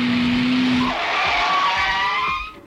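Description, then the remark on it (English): A Tupper Car skids into a brick wall at 55 miles an hour with a loud, sustained tire squeal: high, whining tones sliding over rough road noise for over two seconds, then cutting off abruptly. No one speaks. “Let's run this Tupper Car into a brick wall at 55 miles an hour.”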